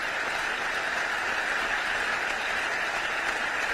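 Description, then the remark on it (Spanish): Sustained, dense standing-ovation applause from a large crowd in the German parliament after President Zelensky's videoconference address, a steady wash of many hands clapping at an even loudness throughout, with no voices standing out. “Gran ovación tras una intervención en la que Zelensky ha pedido que se derribe un nuevo muro de Berlín que separa los países oprimidos de los libres.”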